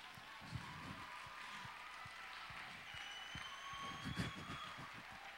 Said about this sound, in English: Let's give a clap for these people.